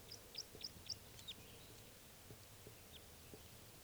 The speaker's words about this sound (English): Oh, and here comes another male in flight song.